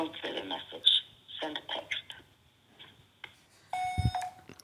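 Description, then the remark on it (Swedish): A phone line rings out on an unanswered outgoing call, a steady electronic tone over thin telephone hiss, arriving near the end after some quiet, muffled talking. “Hon vet säkert att det är vi som ringer.”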